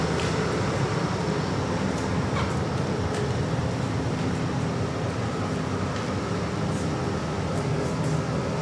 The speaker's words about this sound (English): While this big truck is passing by, we'll just take a deep breath.